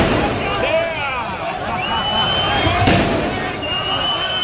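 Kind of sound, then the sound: fireworks exploding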